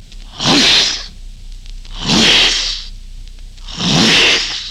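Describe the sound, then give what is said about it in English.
Jonathan Winters vocally imitates a whip crack three times on NBC's Monitor: sharp, hissing, breathy bursts, each about half a second long, evenly spaced and loud, with no talking between them. “What about a whip?”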